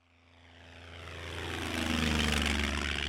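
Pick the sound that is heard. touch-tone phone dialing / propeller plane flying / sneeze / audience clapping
propeller plane flying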